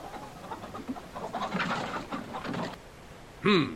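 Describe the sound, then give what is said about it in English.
A rapid, rustling flurry of wingbeats as a pigeon is released by the bosun and takes off and flutters away, fading briefly before a short, sharp bird call rings out at the end. “Oh, just release the pigeon then, bosun.”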